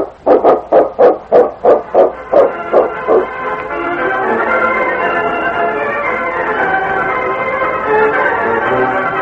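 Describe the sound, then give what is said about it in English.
A dog barks in a quick, steady series of about eight loud yelps that gradually fade, then a continuous wash of broad noise takes over and lasts to the end. “I'd like to see that dog of yours win it.”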